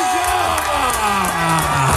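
A crowd applauds and cheers loudly and steadily, with whoops and shouted voices rising above a dense wash of clapping that fills the whole moment without letting up.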